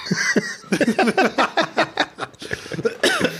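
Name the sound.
a cough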